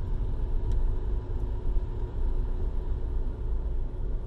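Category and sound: vehicle, car idling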